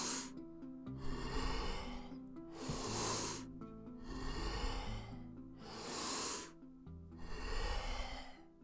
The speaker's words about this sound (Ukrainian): Залишилось 10 разів. Повний вдих, видих. Вдих, видих. Ще 5. Давай на максимум. Скоро пауза.